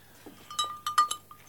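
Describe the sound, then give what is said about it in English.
A cowbell attached to Boss, a black mongrel tracker dog, clanks four or five times in an irregular, jostling rhythm, each hit leaving a brief metallic ring, moderately quiet, with no voices. “Don't be confused if you think you can hear cows in the background, because we're attaching a cow bell to our tracker dog, Boss, who's a black mongrel, incredibly friendly and lively.”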